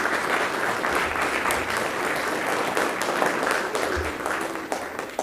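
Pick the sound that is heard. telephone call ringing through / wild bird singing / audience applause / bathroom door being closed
audience applause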